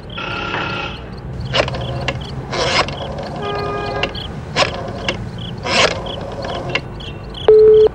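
A call is placed from a telephone booth to a colonel: a series of sharp mechanical clunks and rattles, like coins dropping and the handset being handled, ending in a steady, mid-pitched electronic tone.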